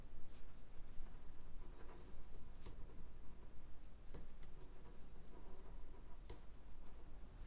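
A black pen scratching across paper, soft continuous scribbling broken by a few sharp ticks and taps, with a low steady hum underneath and no voices.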